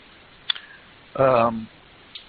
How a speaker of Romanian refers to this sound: Eu fac click-click pe albumul de poze, cred că se pot observa pe pagina streaming.